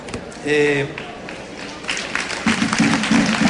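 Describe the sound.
A short vocal sound rings out, then audience applause builds into a steady, dense clatter of many hands, growing louder toward the end while a voice murmurs underneath.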